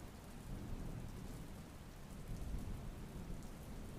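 Steady, heavy rain pours down continuously, with a deep, low rumble of thunder rolling underneath throughout. The storm is fairly loud, with no voices present.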